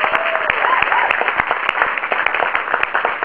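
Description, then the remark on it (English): An audience breaks into sustained applause for the SPJ, the Society of Professional Journalism. It is a dense wash of many hands clapping steadily throughout, with faint crowd voices and a brief whistle-like tone mixed in. “Let's first give a real big round of applause for the SPJ, Society of Professional Journalism, for inviting us here.”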